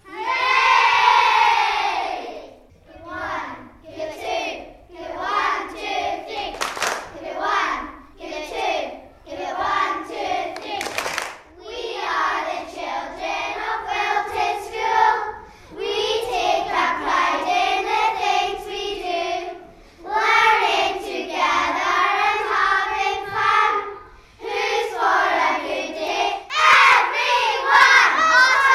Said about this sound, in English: This is Wilton Primary School song, and P3 are going to sing it.